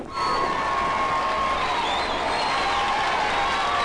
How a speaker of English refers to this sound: You command great armies. Crowds cheer wherever you go.